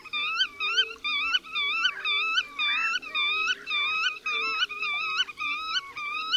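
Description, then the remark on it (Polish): A male bird's call given in a rhythmic display flight, one wingbeat per syllable as the bird rolls from side to side: a steady, rhythmic run of about ten wheezy, harmonic, slurred syllables, each evenly spaced and moderately loud, with no voices. “Samce wydają ten głos w charakterystycznym, rytmicznym locie tokowym, w którym każdej sylabie odpowiada jedno uderzenie skrzydeł.”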